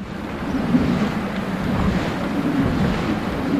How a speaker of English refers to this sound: With its four giant sails flailing in the wind, a traditional Dutch windmill is at work. Inside the mill, the great clunking wooden wheels and gears are doing the job they've done for centuries, pumping and draining.